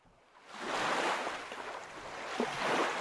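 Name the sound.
rushing river water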